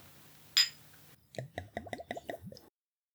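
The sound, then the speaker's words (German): One bright, ringing clink of glasses in a toast with Küstennebel, an anise liqueur, followed after a short pause by a quick run of soft, wet gulping or plopping sounds. No one speaks. “Na dann, Prost, würde ich sagen. Prost.”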